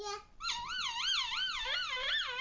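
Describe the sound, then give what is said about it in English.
Someone vocally imitates a police car siren, a high wavering wail rising and falling in quick repeated cycles, fairly loud, with no other talking. “Okay, here comes the police car. Can you make the sound for me?”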